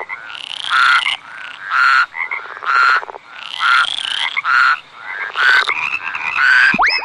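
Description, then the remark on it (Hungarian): A toad croaks loudly in a series of rapid, trilling bursts, each lasting under a second and repeating steadily with short pauses between them. “A műsorszám varangy megjelenítést tartalmazott.”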